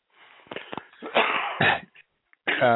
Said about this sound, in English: Yeah, we're both hacking and coughing and sniffing today.